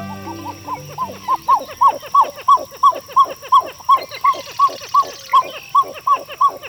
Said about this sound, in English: Does this song evoke an old jungle movie? Well, actually, we're hearing the pied-billed grebe, a common resident bird of freshwater lakes and ponds.